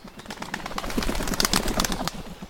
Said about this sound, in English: The band-tailed pigeon is mostly gray with a shimmer of purple on its head and breast and a white crescent across the back of its neck. The band tail of this beautiful bird refers to the dark charcoal stripe midway up its tail feathers.